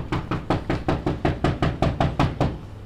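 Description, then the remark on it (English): A steady series of about ten firm knocks on the front door of a Milwaukee property during a prosecutor's knock-and-talk visit investigating neighborhood complaints, evenly spaced, with no voices. “Lopez calls this type of visit a knock and talk”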